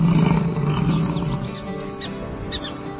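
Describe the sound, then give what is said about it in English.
A bison bull in the North Dakota Badlands, during the mating season, lets out a deep, rumbling challenge bellow, strongest at the start and trailing off into a low growl, with a few faint high chirps scattered over it. “The bulls bellow challenges that echo across the Badlands.”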